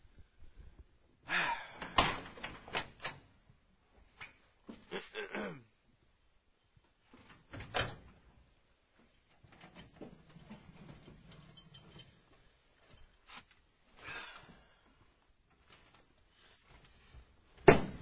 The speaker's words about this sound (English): Need a little grease on that door. Yeah, that's just like butter.